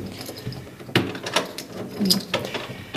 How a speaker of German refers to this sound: Schauen wir mal, ob die Damen daheim sind und ob sie uns reinlassen. Jetzt klopfe ich erstmal. Schauen wir mal.